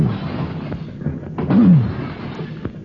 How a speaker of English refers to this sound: Oh, good grief, the fire door. The fire door let go.